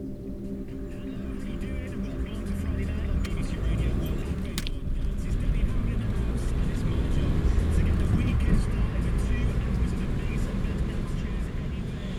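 A car engine rumbles steadily from inside the moving vehicle, a deep, continuous drone with road noise that holds at an even, fairly loud level throughout.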